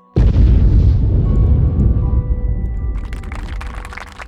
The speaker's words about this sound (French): L'explosion me semblait beaucoup plus puissante que prévu.